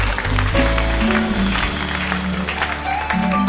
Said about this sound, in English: Give God a big round of applause, everybody. He's worthy. He's worthy. He's worthy.